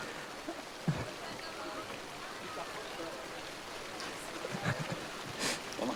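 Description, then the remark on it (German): Steady rain at an outdoor event hisses across the whole stretch, a dense, even patter with a few sharper drops and splashes standing out, while faint, indistinct voices murmur in the background. “Wir würden jetzt einfach mal vorsichtig weitermachen und hoffen, dass die Leute, die jetzt gerade panisch weggerannt sind, einfach mit Regenjacken und Schirmen zurückkommen und hoffentlich regnet es gleich nicht mehr.”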